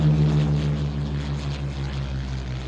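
A propeller airplane drones steadily overhead, its loud, low engine hum holding constant with a throbbing harmonic tone and no voices present.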